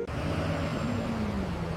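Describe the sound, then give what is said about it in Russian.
A bus engine rumbles as the bus pulls in at a stop, its deep drone and faint whine holding steady. No one speaks. “Ну вот, следующий автобус.”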